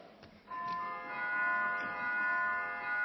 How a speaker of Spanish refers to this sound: Señorías, voy a llamar a votación, que es tocando la campana. Se supone que tienen que estar todos dentro.